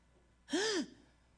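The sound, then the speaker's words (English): One sharp, voiced gasp, a quick rising-then-falling intake of breath, loud, standing alone in quiet with no talking around it. “Is that a gasp or is that just breathing?”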